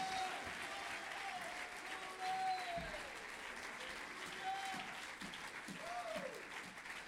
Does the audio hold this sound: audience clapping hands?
yes